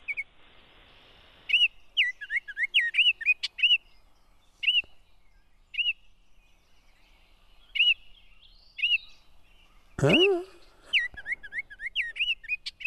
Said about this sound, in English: That's a bird that just arrives in Wisconsin, at least in my home, pretty much every year on May 4th. Is that a rose-breasted grosbeak? No, it's a Baltimore Oriole.